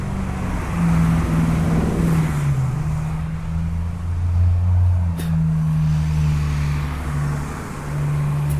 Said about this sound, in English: Fire trucks, I'm sorry. Nature of the beast.